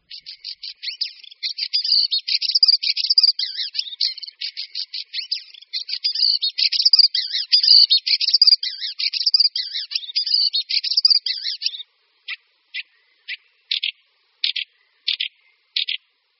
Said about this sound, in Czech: Drost kvíčala.